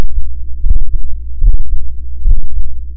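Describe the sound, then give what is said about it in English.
A heartbeat picked up by a fabric microphone of acoustic fiber woven into a vest worn on the body: three muffled, low thumping beats at a steady pace over a constant deep rumble, with no voices. “In another experiment, they also wove the acoustic fiber into a vest that could pick up the wearer's heartbeat.”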